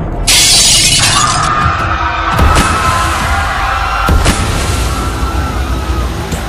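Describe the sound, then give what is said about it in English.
In an auction hall, a person falls to the ground and breaks glass: it shatters loudly, a bright crash followed by lingering tinkling debris, with two more sharp impacts a couple of seconds apart over a low rumbling background. “As she rolls up her eyeballs on the ground, with a large noise, the person falls on the ground and breaks the glass.”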